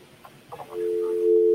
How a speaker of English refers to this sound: Is that working on the computer, or is that just for me? I can hear a dial tone.